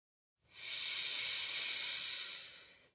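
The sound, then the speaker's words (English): A slow, steady breath drawn in through the nose, a soft airy hiss that swells over about two seconds and then gently tapers off, with no talking, during a relaxation breathing exercise for falling asleep. “Breathing in.”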